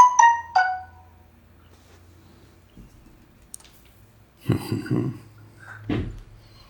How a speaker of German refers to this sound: Ich habe Flugzeugmodus drin, das war eine App-Benachrichtigung.